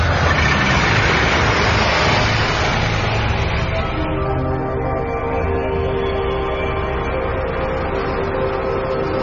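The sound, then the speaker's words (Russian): A truck drives to a fuel storage depot on a dull, warm day along a road soaked after rain, its wheels now and then slipping; the engine drones loud with a steady low hum, straining harder at first and then settling into a constant labouring rumble. “Пашка, пока доехал до хранилища, порядком умаялся.”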